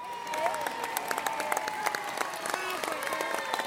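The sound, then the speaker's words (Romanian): Steady audience applause, given twice for boys who answered a quiz question about the prophet Jeremiah, many hands clapping in a dense, continuous patter with scattered sharper claps, at moderate volume from many people. “De două ori aplauze pentru băieții”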